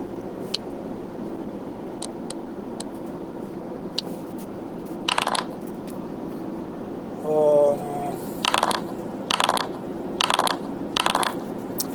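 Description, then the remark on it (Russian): A die is rolled, clattering in a few short bursts against a hard surface, with a brief scrape in between and a faint steady hum underneath. “На земле, сейчас кину кубик, мало ли.”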